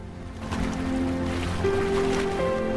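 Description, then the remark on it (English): A diver, a goose-sized bird with short, narrow wings, beats its wings furiously and patters across the surface of a loch. A steady run of splashing and flapping lasts a few seconds as it is briefly airborne, then it sinks back onto the water. A soft musical tone sounds underneath. “Flapping its wings furiously, a diver runs across the water's surface and is briefly airborne.”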